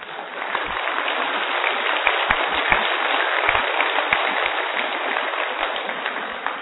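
A crowd claps steadily for several seconds as an exercise, a dense, even wash of many hands with a few sharper individual claps standing out, no voices on top.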